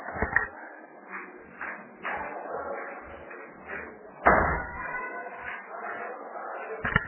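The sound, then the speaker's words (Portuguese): A door swings shut with one solid thud partway through as someone closes it, amid soft shuffling and rustling, with faint muffled voices in the background. “Só um pouquinho que eu vou fechar minha porta.”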